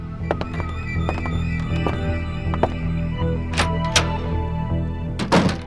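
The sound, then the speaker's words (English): Footsteps sound effect: a series of irregular thudding steps and taps over a steady low hum, with a couple of sharper, louder scuffs toward the end. No one speaks. “Soon, Nathaniel heard footsteps.”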